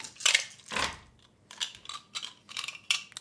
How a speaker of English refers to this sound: So I roll all of these magnificent dice together, correct? Mm-hmm. It's a lot of dice.